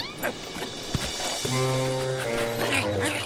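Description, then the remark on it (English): A dog named Tutu barks and yelps in a drawn-out, insistent burst, its voice rising and wavering over a couple of seconds, with no one talking over it. “Tutu, stop that barking!”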